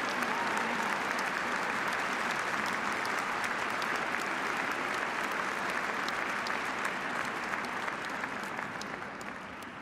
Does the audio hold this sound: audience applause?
yes